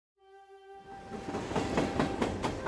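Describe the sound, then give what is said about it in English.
A short train whistle sounds, then gives way to a rumbling train whose wheels clack over the rails in a steady rhythm, growing louder; a train leaving Enterprise, Kansas, in 1901. “On January 24th, 1901, 55-year-old Carrie Nation rode a train out of Enterprise, Kansas.”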